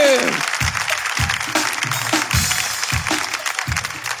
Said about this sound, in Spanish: Un aplauso por eso. ¡Claro que sí! Y más fuerte el aplauso, más fuerte. Más fuerte, porque esto es Tengo Algo Que Decirte.